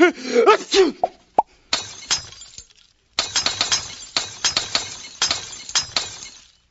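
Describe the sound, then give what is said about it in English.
Glass eyes shatter in a string of sharp crashes and tinkling bursts, following a brief wailing vocal cry at the start, with a short pause before the breaking resumes. “Your new glass eyes look terrific.”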